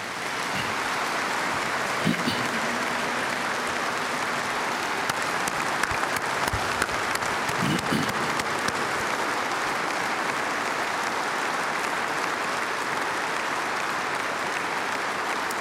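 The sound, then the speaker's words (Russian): An audience at a United Russia party congress applauding to thank medical workers, a dense, sustained roar of many hands clapping at an even level for about fifteen seconds, with no one speaking over it. “И я прошу съезд партии «Единая Россия» поблагодарить наших медиков аплодисментами.”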